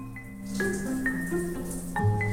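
A shower runs with a steady, even hiss of falling water, joined by faint sustained tones and brief higher notes that come and go over the spray. No one speaks.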